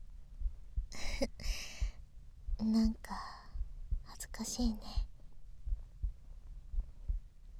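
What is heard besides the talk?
heartbeat heard up close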